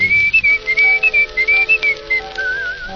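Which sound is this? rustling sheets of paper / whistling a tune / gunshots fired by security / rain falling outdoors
whistling a tune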